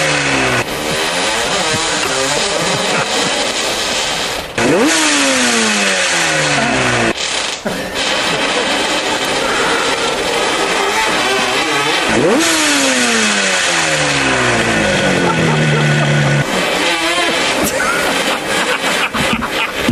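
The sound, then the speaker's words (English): Loud motorcycle engines rev hard again and again on a muddy track, pitch climbing through gear changes before dropping and surging back, a continuous roar with no talking. “Clearly, that one bike needs a tune-up, clearly. Throwing spark plugs revs and wilting flowers.”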